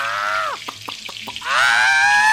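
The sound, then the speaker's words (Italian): Loud sizzling of a sardine frying in boiling oil, with a high whining tone that drops away, a few sharp crackles and pops, then the hiss and whine surge back. “Sardina Sartori, se l'acqua calda ti ha resuscitato, l'olio bollente ti metterà a tacere. Dio ladro, ora ti friggo.”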